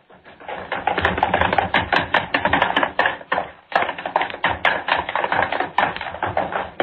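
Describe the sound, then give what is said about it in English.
Fast, heavy footsteps from three people pound and stomp in a dense, loud clatter as they run across a studio floor, up stair steps and back down, performed on cue as sound effects, pausing briefly midway before the running thumps resume. “I want running footsteps, all three of you, across the studio floor, up the stair steps. You stomp and run back down.”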